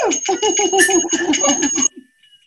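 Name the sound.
whistle being blown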